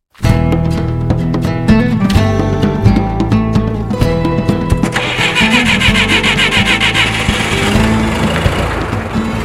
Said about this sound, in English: To capture air, Lamb and Paquette drive a truck towing a trailer full of empty tanks more than 4 hours south of Edmonton to Banff National Park.